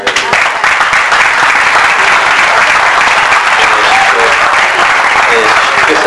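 Sustained applause from a sizable audience, a dense wash of many hands clapping steadily at high volume for several seconds without letting up.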